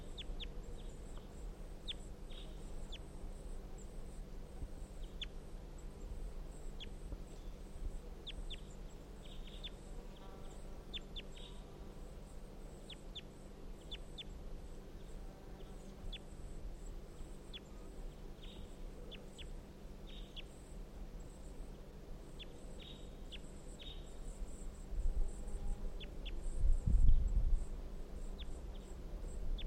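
A wild bird, recorded as bird 350, calls in response, repeatedly in short, sharp, high-pitched bursts over a steady low rumble, the calls fairly faint and irregularly spaced, with a brief low thump near the end. No one speaks.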